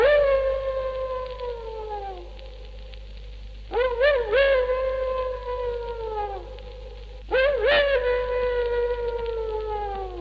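animal, distant dog howling

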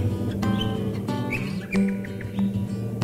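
bird, birds singing

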